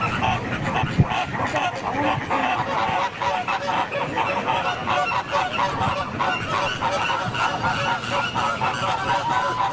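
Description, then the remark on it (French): A gathering of several thousand flamingos calling at once at Nerul, India: a dense, unbroken chorus of overlapping goose-like honks and gabbling that stays fairly loud throughout, with no clear individual voices standing out. “Un immense rassemblement de plusieurs milliers de flamants roses ont été vus à Nerul, en Inde.”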